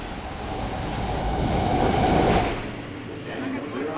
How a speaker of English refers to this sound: After more than a year, riding the subway for the first time was a nerve-wracking experience. It's hard to shake something like that.